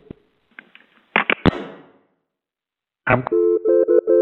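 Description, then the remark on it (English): A few handling clicks and a brief clatter, then a pause before a run of short, steady electronic telephone tones repeats in quick pulses, fairly loud, as a phone call to a Baymont Inn & Suites rings before being answered. “He needs to be able to hear the tones, otherwise it doesn't go.”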